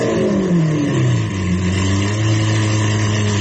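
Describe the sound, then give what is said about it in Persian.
A car engine revs loudly, its pitch sliding down before settling into a steady, droning hum that continues without pause. No one speaks. “مثلا این الان ببینید صدای گریه یک ماشینیه که داره یه گوشه‌ای برای خودش آروم گریه میکنه، نمیخواد ریا باشه.”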